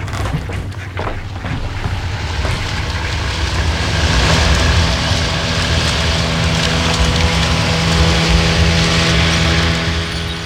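A motorboat speeds away across the Black Lake: its engine roars steadily with a low, humming drone over rushing, splashing water noise, holding loud and even throughout with no voices.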